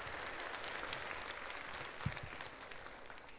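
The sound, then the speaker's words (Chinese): Audience applause for a production's cast and its on-stage and behind-the-scenes co-workers: a steady, dense wash of many hands clapping at once with no pauses, holding an even moderate level throughout. “让我们再一次给剧组和台前幕后的同工们热烈的掌声。”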